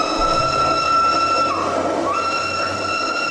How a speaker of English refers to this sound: So you got train whistles and all this stuff